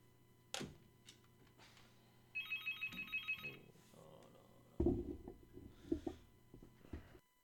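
A telephone at a radio station rings with a brief burst of rapid, pulsing electronic trills, about a second long, followed by louder rustling and knocking noises.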